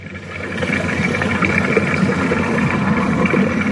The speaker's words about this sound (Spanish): Ahí lo tenéis. El agua de los caños dorados. El acceso a la vieja medina bascetana. En el camino real de Lorca. Suena como indefenso, ¿verdad? Como débil.